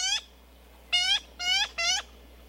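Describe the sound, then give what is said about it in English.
Four harsh, nasal yellow-billed magpie calls, each rich with stacked overtones. One comes first, then a quick run of three after a pause, clear against a quiet background. “Yellow-billed magpies are clever, colorful birds, and they're only found in Central California.”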